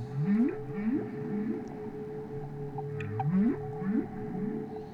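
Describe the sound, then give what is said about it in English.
A whale vocalizes in a steady series of rising, upswept calls, repeating about every half second in two clusters over a constant droning tone, fairly loud and with no one talking. “Yeah, creosote isn't good for whales either”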